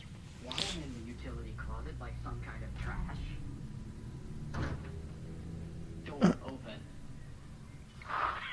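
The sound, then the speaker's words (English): A sliding door opens and shuts with a few brief swishing knocks, spaced apart over a steady, busy background hum with faint voice-like murmuring underneath. “Okay, there's the door. Sliding door.”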